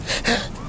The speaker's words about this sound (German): Gesundheit. Katzenhaarallergie.